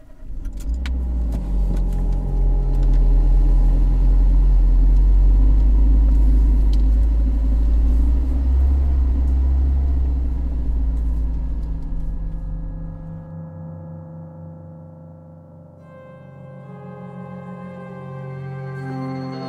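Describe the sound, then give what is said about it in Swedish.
A car engine rumbles steadily with a deep, loud low drone while driving, then the heavy rumble drops away, leaving a quieter, tonal hum with a few high whines. “När jag efter en stund satte mig i bilen föll min blick på bilens mittkonsol där tärningen låg kvar.”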